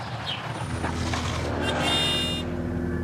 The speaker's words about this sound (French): Ce simple coup de klaxon d'un conducteur de deux roues est la provocation de trop.